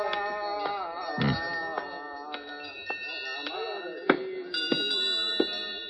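Many bells in the Shop of 1,000 Bells at a bazaar chime and clang together, with fresh strikes every half second or so layering bright, sustained metallic tones of different pitches into a shimmering, continuous ringing.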